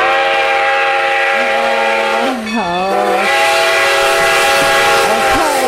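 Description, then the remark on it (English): A train's steam whistle blows a sustained, loud harmonic tone, bending in pitch midway, over a steady rumbling train; no one speaks. “It's the YOLO train, friends.”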